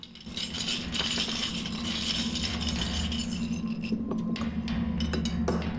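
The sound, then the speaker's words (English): A dense, continuous metallic rattle of screws being emptied out of a large glass jar, clattering and clinking against the glass, steady and fairly loud for several seconds, with a few sharper clinks near the end. “Mohinder nods to Sila, who empties a large glass jar of screws and places a wrench into it.”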